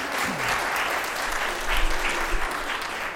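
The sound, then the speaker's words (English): Steady, dense audience applause, another round for performers, a broad wash of many hands clapping at a fairly loud, even level with no speech over it. “Let's give them another round of applause, everyone.”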